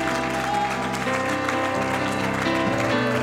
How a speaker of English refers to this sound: Now, would you give the Lord a hand of praise? Clap your hands to God. Applaud God. Applaud God. Hallelujah. Applaud God.